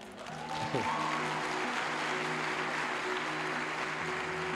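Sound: audience applauding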